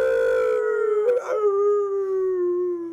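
A single wolf howls in one long, sustained note that gently wavers midway and slowly falls in pitch, loud with no talking over it.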